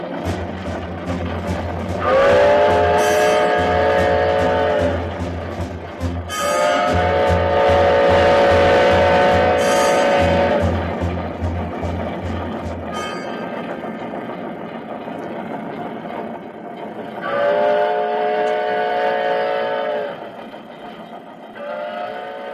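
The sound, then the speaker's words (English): A steam locomotive puffs along with a steady low rhythmic chugging, overlaid by three loud, sustained tonal blasts; the chugging fades out partway through, leaving the last blast over quieter rumble. “Oh, he puffed and he panted, this old iron horse, black and smoke and cinders, a mark in his course.”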